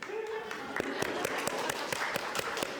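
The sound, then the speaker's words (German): A short round of applause from a small group, with quick, fairly steady claps at moderate loudness and a faint murmur of voices in the background. “Kleinen Applaus vorweg.”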